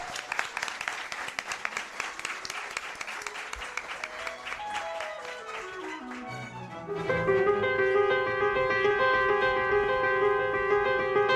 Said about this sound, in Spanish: Un aplauso para ti. Felicidades.